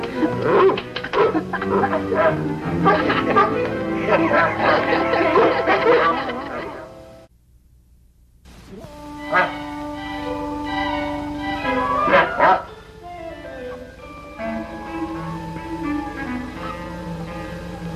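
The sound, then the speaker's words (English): A dog barks and whimpers in a run of excited yips and whines, breaking off into a brief silence midway before more whimpering and yelping follows. “That's a good dog.”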